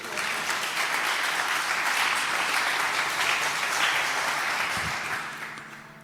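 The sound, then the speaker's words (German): Sustained audience applause at the Datenspuren event, a dense crackle of many hands clapping at steady loudness, tapering off slightly toward the end, with no one speaking over it. “Applaus.”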